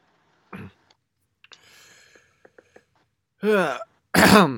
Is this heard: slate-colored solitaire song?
no